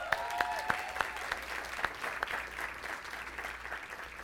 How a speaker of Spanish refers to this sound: Me encanta cómo predica y quiero que recibamos con un gran aplauso a mi esposita hermosa.